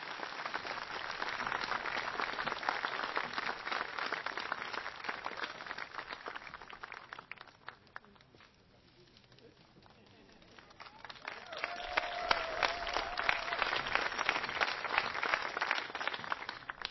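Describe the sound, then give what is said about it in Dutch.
A crowd applauds a band with dense, steady clapping. It dies down briefly midway, then swells again to full strength, with faint crowd voices mixed in. “En dan een groot applaus voor ….”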